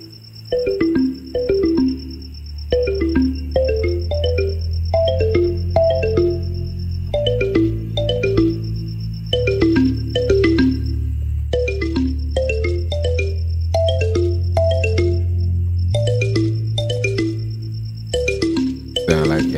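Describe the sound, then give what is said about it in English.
A phone's musical ringtone rings continuously, repeating a bright, looping melody over a steady bass line, fairly loud, with no one speaking. “Where's the phone at?”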